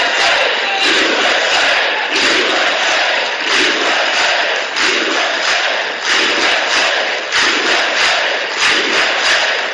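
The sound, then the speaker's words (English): Democrats in Congress, urged by Pelosi to stand up, cheer and shout loudly and continuously about more women serving in Congress than ever before, a dense roar of many voices with rhythmic surges and chant-like bursts throughout. “This is the only time the Democrats, and Pelosi, like an idiot, asking her Democrats to finally stand up, to cheer themselves.”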